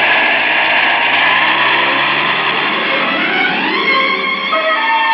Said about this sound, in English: The helicopter jumped 1,000 feet straight up, just before the temple crashed on the spot where we had been.